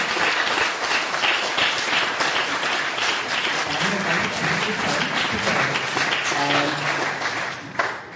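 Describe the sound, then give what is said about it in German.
Sustained audience applause after a theater performance fills the whole stretch, a dense wash of many hands clapping with a few faint voices mixed in, ending with a final burst. “Okay, dann vielen Dank und nochmal einen großen Applaus für das.”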